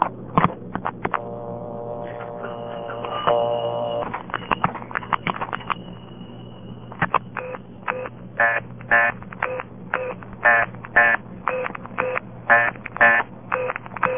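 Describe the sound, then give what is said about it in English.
Telephone line sounds after dialing an invalid prefix: a few dial clicks and a steady tone, then a regular series of short, loud beeping bursts repeating through the rest, with no talking. “If you dial a bad prefix, you get the following.”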